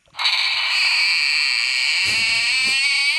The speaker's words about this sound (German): Eine knarrende Tür.